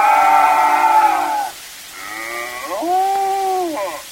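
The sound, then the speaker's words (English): A cow lets out two loud, drawn-out moos after a can of milk is taken from her, the second rising and wavering in pitch, with a short pause between them and no talking. “Hey, fellas, I just pinched a can of milk from that cow over there, and she didn't like it.”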